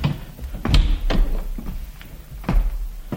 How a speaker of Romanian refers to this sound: Capitane Columb, nu ne aude nimeni aici în cabina dumitale. Să închidem ușa.